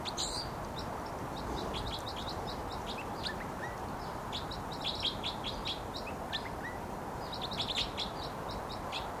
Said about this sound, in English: Flight song there by the wild bird who's vocalizing. And he just moved to another perch. And this is still that wild bird who gave the flight song.